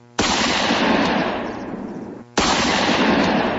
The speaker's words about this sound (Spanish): Hasta que de pronto suenan dos disparos.